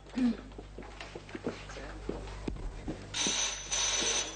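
A telephone bell in a notary's office starts ringing loudly near the end, a bright, rattling ring in two quick bursts, right after a few quiet murmured words and some soft movement.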